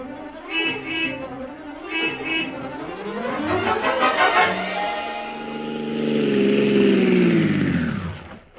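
A taxi bound for the Columbia Broadcasting Studios starts and revs up, its pitch climbing as the car gets moving, then a long steady drone that slowly winds down and cuts off. No one speaks.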